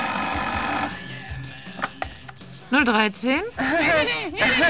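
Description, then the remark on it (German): A telephone rings once in a short, bright burst, loud, then goes quiet before a person starts talking. A phone ringing in an apartment in the evening. “Plötzlich klingelte das Telefon.”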